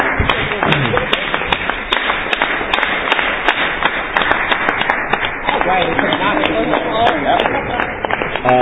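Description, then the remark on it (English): A crowd applauds steadily for several seconds as the DOE walks up to present Resolution 26, approval of the Spring 2013 elections rules, a dense, loud wash of many overlapping hand claps with scattered sharper claps standing out, and some indistinct voices mixed in. “I would just like to have a round of applause for him.”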